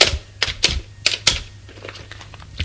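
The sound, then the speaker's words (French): Someone dials a telephone number: a run of sharp, clacking button presses in an uneven rhythm, a few loud ones early, then quicker, softer taps over a low steady hum. “Furieux, il fait son numéro de téléphone.”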